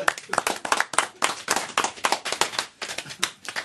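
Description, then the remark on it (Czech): An audience claps in a dense, steady round of applause, many sharp overlapping hand claps forming a bright, fairly loud crackle with no voices, applauding a men's choir leader on his birthday during a live broadcast. “A prosím vás o potlesk.”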